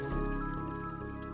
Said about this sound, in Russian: Вы не желаете выходить из этого блаженства, но шум ручейка вновь напоминает о себе, и вы вспоминаете, что вы сидите возле воды и слышите журчание этого ручейка, журчание воды.